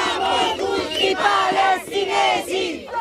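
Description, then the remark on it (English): A large crowd chants in unison at a march in support of the flotilla to Gaza, with people on bridges joining in. The loud, rhythmic shouted phrases rise and fall in repeated waves, with many voices blending together. “People wave at us from bridges and join in with the chants.”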